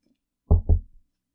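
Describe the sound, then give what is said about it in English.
Two quick, fairly loud knocks on wood, the second following right after the first with a short hollow ring-out, then silence. “Things are gently opening again, knock on wood.”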